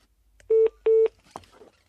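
Two short, loud electronic DTMF dialing beeps of a telephone keypad in quick succession as a phone number is dialed, followed by a brief faint clatter of handling noise.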